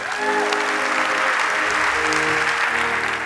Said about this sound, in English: Well, let's give God a cool clap offering.